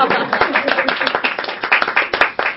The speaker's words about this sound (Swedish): Och kan vi alla bara titta på dem och ge en fantastisk applåd åt de här som har fulla till sig lite grann.